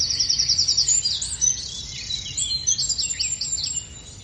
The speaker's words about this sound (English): Song thrush really is my very favourite bird, the urban nightingale, sometimes people call it.